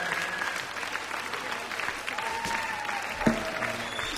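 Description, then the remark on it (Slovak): A crowd at a concert claps steadily throughout, a dense, even patter of many hands with no pauses, plus a few faint whistles and cheers mixed in. “Zas vám musím zatleskať.”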